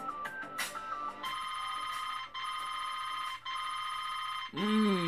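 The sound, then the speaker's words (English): A phone alarm rings, waking someone from sleep: three long, steady electronic bursts with brief gaps between them, loud, preceded by a few quick chiming tones and cut off by a rustling shuffle. “I'm roused from slumber by the irritating yet very nostalgic sound of my alarm.”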